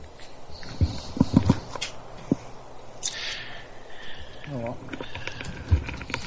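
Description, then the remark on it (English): Heavy, irregular keystrokes pound on a computer keyboard while someone tries to log in: a quick cluster of hard clacks, then scattered single thumps over a steady low background hum, with a faint murmur of voice in between. “Oh, hear me pounding on my keyboard.”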